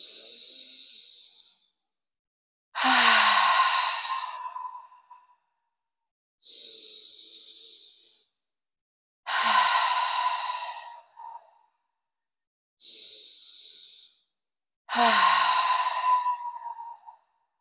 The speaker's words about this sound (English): We're going to take three deep breaths, pausing at the top and exhaling loudly. And when we breathe in, we're breathing in peace. When we exhale, any stress in our body is leaving us. We're going to do our first breath.